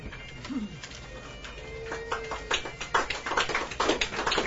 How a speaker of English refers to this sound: Thank you. I like those slow claps. I like that.